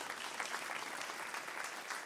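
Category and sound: crowd, audience applauding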